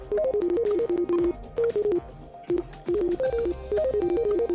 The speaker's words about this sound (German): Ich glaube, mein Schwein pfeift. Nein, es denkt. So klingt es, wenn ein Schweinegehirn arbeitet. Sagen jedenfalls die Entwickler, die der Unternehmer Elon Musk aufs Gedankenlesen angesetzt hat.